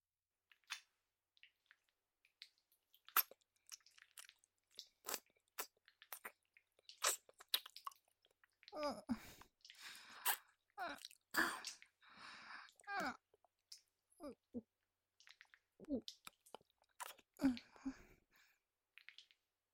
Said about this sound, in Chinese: 我用舌头卷着你的肉棒顶端，不停的舔舐， 我会像这样把你的肉棒龟头整个吞咽进嘴里吮吸。